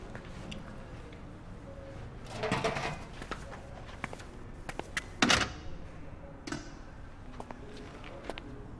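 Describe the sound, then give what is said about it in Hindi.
A door is pushed shut from inside, with a muffled rattle followed a few seconds later by a sharp latching knock, amid a few faint clicks. “खुदा हाफिज, अंदर आके दरवाजा बंद कर लो।”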